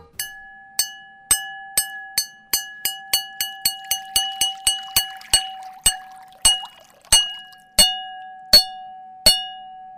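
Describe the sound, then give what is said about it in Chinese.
A bowl, one of a set of cups and bowls holding different amounts of water and played as instruments, is struck over and over with ringing, bell-like clinks, quick at first and then slowing, while water is poured into it softly partway through, lowering its pitch. No one speaks. “哇，变低了耶！”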